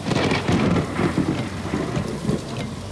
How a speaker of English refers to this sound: It was dark and during a bad rainstorm.